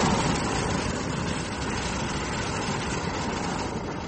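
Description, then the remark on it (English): A hot-air balloon's propane burner fires again as the balloon levels off after a slow climb, in one steady, loud, continuous roar lasting the whole four seconds, a broad rushing blast with no breaks and no voices over it. “We're just about levelling off, and I'm going to have to burn again, so just hold on.”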